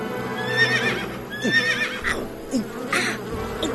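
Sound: horse neighing and whinnying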